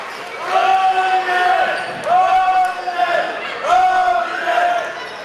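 A cheering section at a volleyball match chants in unison, three loud, drawn-out rising calls in a steady rhythm, with scattered crowd noise and the squeak and thump of play underneath.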